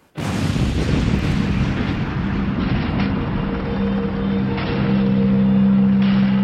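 A loud, continuous roaring rumble sets in abruptly as campers' butane stove gas cylinders explode one after another in a chain reaction, the blasts blurring together. A few dull booms stand out, and a low droning tone rises near the end.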